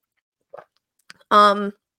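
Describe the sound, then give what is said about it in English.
A faint, brief slurp and a couple of soft swallowing clicks, followed by a short, loud voiced 'ahh' of satisfaction after the sip. “Hold on, I'm gonna take a sip break.”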